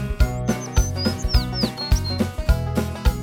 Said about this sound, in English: It's a small bird, tweet, tweet, tweet.